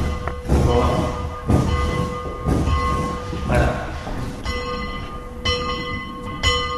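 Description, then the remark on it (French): Bells rung by a pastor at Orly airport ring out steadily, struck about once a second with bright, lingering tones that overlap into a continuous resonant hum, fairly loud. “C'est la pasteur qui sonne les cloches.”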